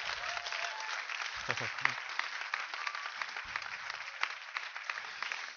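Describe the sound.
An audience at a church service applauds steadily for several seconds for a woman about to be baptized, a dense wash of clapping with a few brief cheers or voices mixed in, at moderate loudness.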